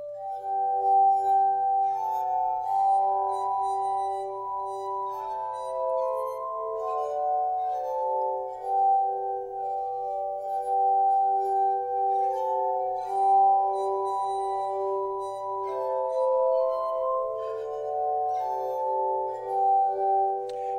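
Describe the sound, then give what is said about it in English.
A glass harmonica, made of glass bowls turned on their side on a turning spindle, plays a gentle, slow melody of a Christmas tune, its pure, ringing, sustained tones overlapping smoothly with a shimmering, ethereal quality, steady throughout with no voices. “these are glass bowls, essentially, that are turned on their side, connected with a spindle that runs through all of them, and then it turns”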